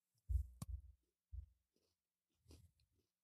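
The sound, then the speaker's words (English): Loud, crunchy chewing of a peanut butter and chocolate treat right into the microphone: a burst of crisp crunches with a sharp crackle, a pause, another bite, then a final cluster of softer crunching. No talking. “That is pure mic crunch.”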